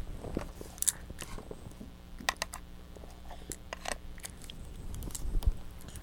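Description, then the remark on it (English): Irregular clicking and gnawing as a baby chews on plastic toy keys, sharp little taps and crunches scattered across a quiet background with no talking. “The keys. The keys again.”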